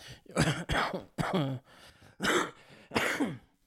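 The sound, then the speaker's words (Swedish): A run of harsh coughs and throat clearing, about five or six bursts in quick succession with short gaps, loud and raspy with no talking. “Jag sitter och hostar rejält.”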